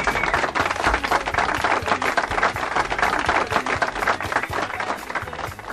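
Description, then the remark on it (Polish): A crowd applauds steadily and loudly, a dense wash of many hands clapping without pause for about six seconds, with no voices breaking through. “Oklaskom nie było końca.”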